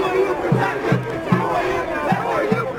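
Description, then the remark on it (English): A dense, angry protest crowd in Boston shouts and roars at police who push it back, with rhythmic bursts like a chant pulsing through the din. The noise is loud, with no pause. “The crowd grew angry and was pushed back by the police.”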